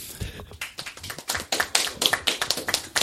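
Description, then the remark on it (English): A short burst of light, scattered applause, a small audience clapping unevenly with sharp claps overlapping at moderate loudness, no voices. “How about just a little applause would make me feel better.”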